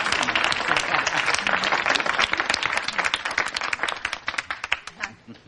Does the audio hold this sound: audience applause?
yes